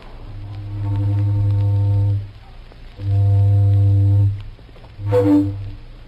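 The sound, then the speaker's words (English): An old steamboat whistle, the familiar toot heard by radio listeners in November 1925, toots twice in long, steady, low-pitched blasts with rich harmonics, each about a second and a half, followed by a shorter, brighter burst. No one speaks. “You heard a mighty familiar toot on an old steamboat whistle and a mighty friendly voice talking to you sort of like this.”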